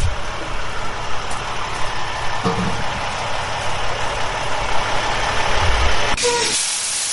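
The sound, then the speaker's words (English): A large Budweiser beer delivery truck engine idles steadily with a low, continuous rumble and broad hiss, with no talking. Near the end, a brief, brighter hiss bursts over the engine. “You drive the what we call the beer truck.”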